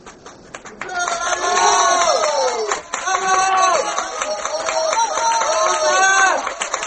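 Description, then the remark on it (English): A Paris theatre audience applauds and shouts for the author Dumas as the curtain comes down at the end of a play, a steady, loud roar of many overlapping voices calling out over a dense wash of clapping that swells after a quiet first second and stays strong throughout. “They're yelling for you out there, Dumas. Go on. You've got to show yourself.”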